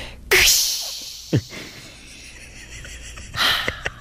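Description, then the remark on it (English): A voice imitates a piston toilet flusher: a sharp, breathy whoosh, a brief low thump, a stretch of soft hissing, then a second forceful burst of air near the end. “everyone give your impersonation of what you think the piston flusher sounds like”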